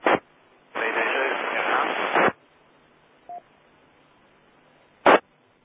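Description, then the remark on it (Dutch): A faint, garbled radio call from call sign PD7 Romeo Hotel, buried deep in hissing static, with short squelch bursts before and after a longer crackling stretch; no clear words come through. “Dat was diep in de ruis, klopte dat?”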